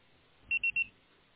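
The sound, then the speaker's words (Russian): Three quick, evenly spaced electronic beeps at a steady high pitch, a phone voicemail tone after which a message can be left because the called subscriber cannot answer, clear against a quiet background with no voices. “Вы можете оставить сообщение после звукового сигнала.”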